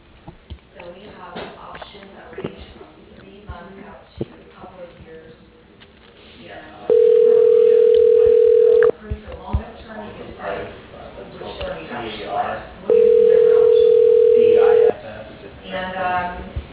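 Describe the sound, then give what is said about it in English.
A telephone ringback tone sounds twice as a call is transferred to a person's voicemail, each a steady, loud electronic tone lasting about two seconds with a pause between, over a faint background of muffled voices on a phone line. “I can transfer you to her voicemail.”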